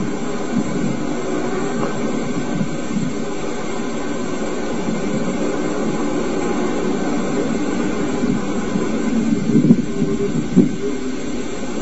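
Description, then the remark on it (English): An engine running on Angola crude oil (39.5 gravity), fed through a miniature refinery unit, drones steadily and loudly throughout, a continuous low rumbling hum with a few brief louder surges near the end and no talking. “whereas this end of it acts as a miniature refinery, allowing the engine to run on everything from battery acid and water mixed to crude oil right out of the ground.”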